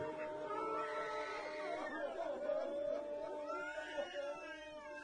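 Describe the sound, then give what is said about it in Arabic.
A frightened infant cries in a continuous, high-pitched, wavering wail that rises and falls over several seconds, loud and sustained with only brief catches of breath. “اسمع اسمع أريدك تسمع بكاء بربك اسمع اسمع شوية اهدى شوية اهدى اهدى اهدى خايف الرضيع خايف لا تخوفونه.”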